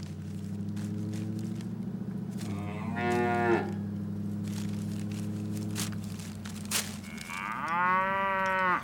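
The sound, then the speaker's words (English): A cow moos loudly, a long low drawn-out call followed by two rising, throaty bellows, with no talking. “And now a cow who goes to the Chicken Hut drive-thru and then gets halfway home before realizing they forgot his French fries.”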